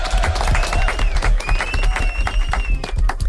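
A group bursts into steady applause, many hands clapping in a dense, crackling patter that stays loud throughout, with a few high whistles or cheers rising above it.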